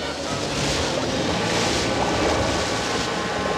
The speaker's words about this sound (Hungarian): Atya Isten! Megint. Víz alatti vulkán, tengerrengés.